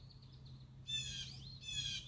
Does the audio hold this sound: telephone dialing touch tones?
no